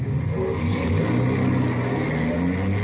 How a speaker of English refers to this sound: Starting the car.